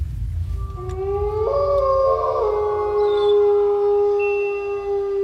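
Several wolves howl together in long, drawn-out overlapping tones that rise and hold steady, a sustained chorus over a low, rumbling background with no talking.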